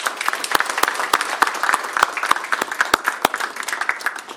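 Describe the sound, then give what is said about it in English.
An audience of students and parents at a meeting applauds the presenters steadily, a dense wash of many hands clapping with a few sharp, louder claps standing out, sustained at an even level throughout. “So let's give the presenters another round of applause.”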